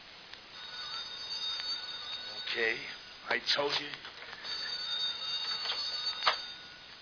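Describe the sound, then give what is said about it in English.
A telephone rings with a steady, high-pitched trilling tone that runs throughout, partly masked by people talking over it. “Sounds louder when it stops ringing.”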